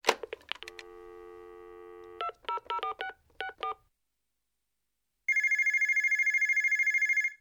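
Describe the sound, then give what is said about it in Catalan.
A receiver clicks up, a steady dial tone hums, and a quick run of keypad beeps is dialed. After a short silence, a loud electronic telephone ring trills in a rapid pulsing burst as a call is placed to the Hotel de l'Estació to book a room. “Truco per reservar una habitació per demà.”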